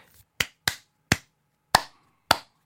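Five sharp hand claps from one person who claps without following a particular rhythm land at uneven, unpredictable intervals, some quick together and others spaced apart, each a crisp slap with a short decay and no voices between them.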